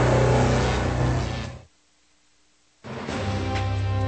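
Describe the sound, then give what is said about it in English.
A car engine revs loudly, cuts to about a second of silence, then roars back in a second burst of revving. No one speaks. “This isn't some Detroit car commercial.”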